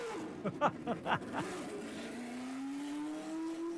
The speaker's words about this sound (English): and that was Mario Andretti's 78-79 black and gold Lotus firing up on the track at Circuit of the Americas. Did you hear that thing spitting and coughing until it came on the cam at, I don't know what, 8 or 10,000 RPMs? How awesome was that?